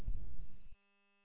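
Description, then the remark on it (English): A low, rumbling air conditioner hum fills the channel for a moment, then gives way to a thin, steady tonal drone. It is fairly quiet, with no one talking. “Who left the air conditioner on?”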